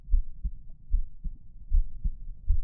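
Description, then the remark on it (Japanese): A deep, muffled, pounding heartbeat thuds in a steady lub-dub rhythm, about four double beats over a few seconds, low with nothing else around it. “ドキドキしとった。”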